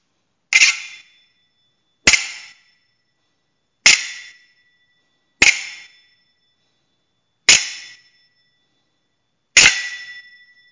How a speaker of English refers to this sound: These will be glissé, or gliding on the blade and hitting the bell guard.